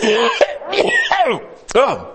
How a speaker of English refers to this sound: Okay, if I am suffering from a chronic cough, that doesn't mean I don't do anything but cough. That means that I have a cough, a nagging cough that just won't go away. And that periodically, I just, excuse me.